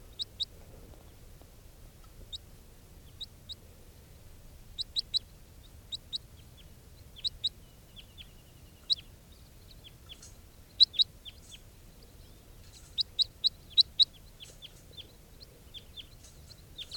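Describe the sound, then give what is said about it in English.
Short, high-pitched chip calls from a juvenile crossbill, bird number 431, repeated irregularly in pairs and small bursts, some sharper and louder, over a low steady background rumble with no talking. “I haven't caught any more crossbills since that flock. That juvenile who recorded pre-capture will be bird 431.”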